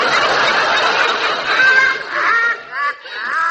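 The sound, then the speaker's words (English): A ship's parrot squawks loudly, a harsh, raspy screech that runs almost continuously, breaking into shorter warbling squawks toward the end. “That's the ship's parrot.”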